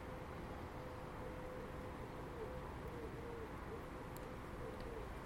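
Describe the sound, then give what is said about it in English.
Soft, low cooing of a few wood pigeons in a garden on a day that is not particularly cold, a faint repeated hooting call half-buried under steady rushing wind noise, with no voices present. “A few wood pigeons just in the background there.”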